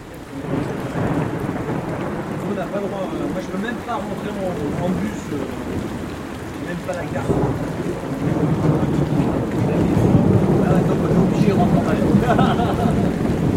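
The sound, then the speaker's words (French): Heavy rain pours down steadily in a dense, continuous hiss, loud, with a deep low rumble swelling stronger in the second half; a downpour at 9 pm on the eve of a race. “Nous sommes maintenant à la veille de la course, sous une pluie battante, 21h”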